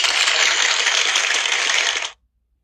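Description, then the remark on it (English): A short burst of crowd applause, dense and steady for about two seconds, then cut off abruptly into silence, like a canned sound effect. “I threw y'all for a loop, but y'all didn't think I was gonna ever get that applause, did you?”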